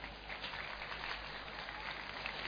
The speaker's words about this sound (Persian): بسیار عالی. هفت نفر رو تشویق کنیم.